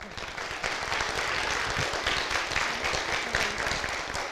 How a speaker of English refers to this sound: Okay, can we have a round of applause for them?